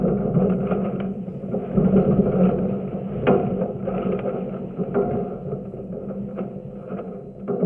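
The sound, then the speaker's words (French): Sailboat sounds picked up by a microphone inside the hollow mast of Nicolas Troussel's boat: a steady, resonant low rumble and hum, broken by occasional sharp knocks and creaks, with no voices. “C'est un micro qui est à l'intérieur du mât?”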